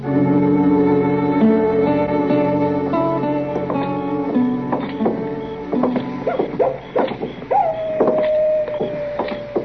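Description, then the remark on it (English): A coyote howls once near the end, a long wavering cry that rises and then holds steady, following a stretch of orchestral music with sharp, scattered accents. “Listen to that miserable old coyote, Mr. Dillon. Did you hear him? Yes, I heard him, Chet.”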